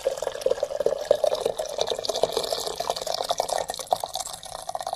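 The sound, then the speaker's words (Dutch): Boiling water pours steadily into a teapot holding cut lemongrass stalks for tea, a continuous bubbling, gurgling stream that stays fairly even for the whole five seconds, with no voices. “Citroengras, van die lange groene stengels, ze zijn een beetje hard, dus we snijden ze even in kleine stukjes, omdat zo'n grote ding is niet in de theepot past. Zo. In de thee. Kokend water.”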